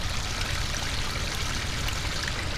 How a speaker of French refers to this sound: C'est aussi très très beau, et ce son de la cascade aussi. Voilà.